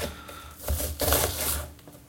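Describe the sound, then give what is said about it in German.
A knife chops rapidly against a cutting board, dicing an onion into small cubes in a quick series of crisp taps in an uneven rhythm, heard on its own without any talking. “Ich schneide mein Zwiebelchen in kleine Würfelchen.”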